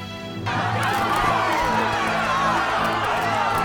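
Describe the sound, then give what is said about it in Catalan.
A dense, agitated crowd roars and shouts in the streets, many voices overlapping in a steady, chaotic din with scattered yells rising above the noise, as men and women push, strike and throw vegetables at a naked, bloodied man. “Pels carrers la multitud estomaca en Roger, que avança nu, i es cobreix amb les mans el cap ensangonat, entre empentes i cops”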